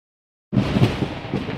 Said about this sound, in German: Was war das denn? Ein Blitz? Oh, wir Eulen mögen aber Gewitter gar nicht. Ganz schön gruselig.